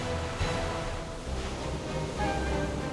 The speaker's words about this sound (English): Captain Delavier and his crew were thrown into the rising waves of the flooded channel. Their vessel was ripped apart as the crew were swept underwater and carried away by the current.